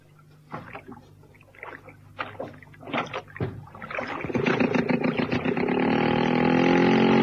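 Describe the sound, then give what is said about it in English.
Wooden knocks and creaks of a rowboat being boarded, followed by steady splashing and sloshing water as oars pull through the lake at the Merry Lake Pleasure Resort in the late afternoon, growing louder and more continuous toward the end. “Outside and into the boat.”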